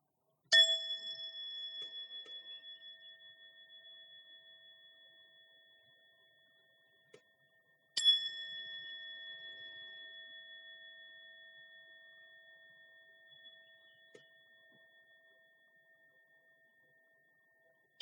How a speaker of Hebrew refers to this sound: לאחר שנמצא המקום המתאים לתרגול שיהיה ללא הפרעות בישיבה הנוחה, בישיבה על כרית או על כיסא, נקשיב לשלושה צלילים של הפעמון.